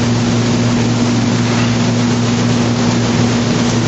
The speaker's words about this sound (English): Okay, it is fairly warm here, so we have the air conditioning on. Sorry about the recording, but the way it is.